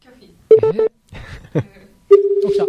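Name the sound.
telephone dialing tones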